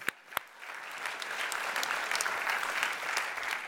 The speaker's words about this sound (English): So we're saying to them, thank you for what you've done to serve us and point us to Jesus. And of course, we don't just say that, okay, yes, we can applaud.